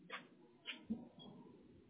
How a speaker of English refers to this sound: Stop digging. Come on. So we have an archaeologist dog over here. Digging a pothole. Oh, God. Digging a hole for you to drive into later.